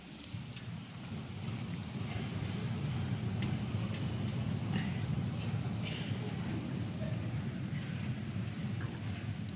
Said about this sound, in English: I wish you could hear what I hear. It sounds like thunder when the seats all go up.